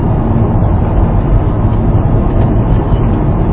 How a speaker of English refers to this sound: Cars coming down the road here on this very busy road at the 5 o'clock traffic.